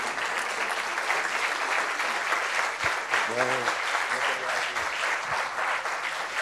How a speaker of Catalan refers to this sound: i que avui, per sort, i això és un luxe i un honor, el tenim entre nosaltres i el convido a que pugi aquí i li farem un aplaudiment per rebre'l. El senyor Proens, endavant.